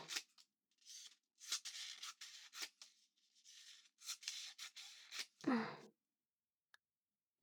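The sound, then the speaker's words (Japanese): Origami paper being snipped into strips with scissors in a quick series of short, crisp cuts and rustles, followed by a brief louder crinkle and then near silence. “短冊状にしたら、端っこを糊で、で、くっつける。”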